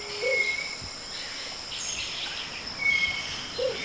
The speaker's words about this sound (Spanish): Y entonces el momoto empieza a cantar, una nota grave y áspera que repite cada rato.